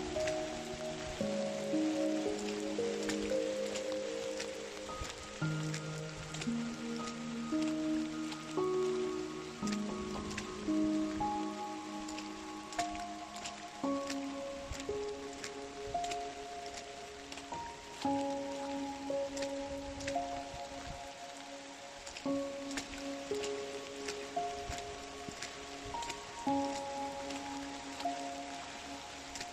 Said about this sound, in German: Der Regen hat ein wenig nachgelassen. Aber du meine Güte, sieht das hier aus. Der Regen hat den Erdboden völlig aufgeweicht.